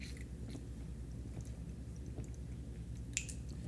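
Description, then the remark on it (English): Quiet mouth sounds of someone drinking water, with soft sips and swallows over a low steady hum, and a small sharp click near the end. Nobody speaks. “All right, going to take a quick hydration break here. You got water near you? Drink up, man.”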